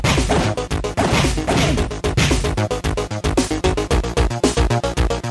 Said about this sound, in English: All right, that's some real punching. Published by Activision.